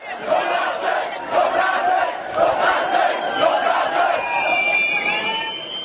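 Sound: crowd shouting slogans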